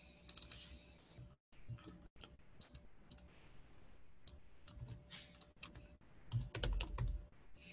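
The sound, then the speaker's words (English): Rapid, irregular clicking of keys on a computer keyboard, fairly loud, with short bursts and brief pauses between flurries of typing, and no voices. “I was typing in the old version.”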